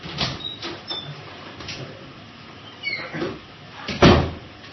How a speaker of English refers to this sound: Hang on just a second. Someone's knocking at my door.